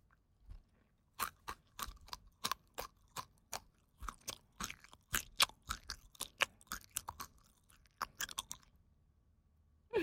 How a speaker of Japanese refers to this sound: じゃあ、君の要望に応えて、もっと下品に食べてあげるね。上司の咀嚼音はこんなに至近距離で聞くことないもんね。